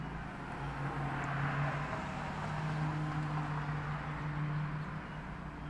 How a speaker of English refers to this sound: Sound of a car going by.